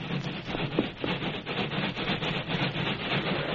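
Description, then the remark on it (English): An approaching train engine chugs steadily, its dense rumbling hiss pulsing in a quick, even rhythm, fairly loud throughout, with no voices. “Here come the engine.”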